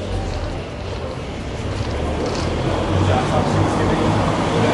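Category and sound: vehicle, city street traffic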